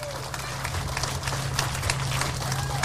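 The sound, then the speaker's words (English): A group of people applauds the president and officers of the Central Oak Park neighborhood at a community meeting. The claps make a dense, steady patter that holds at an even loudness for about three seconds, with a low hum running underneath. “They're here to the left, so we can give them a round of applause.”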